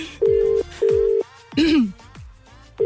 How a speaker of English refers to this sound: Let's ring my mam live on air. She's going to kill me, but we're doing it. It's ringing.